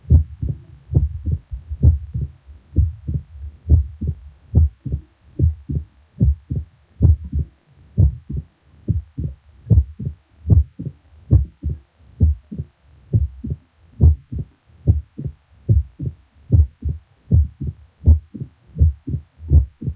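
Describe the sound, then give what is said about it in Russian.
Heart sounds of mitral stenosis, recorded at the heart apex of a patient, with a repeating three-part rhythm: a loud, intensified first sound followed by the mitral valve opening snap, thudding steadily with no talking. “Сейчас вы еще раз услышите запись, сделанную у больного с митральным стенозом на верхушке сердца.”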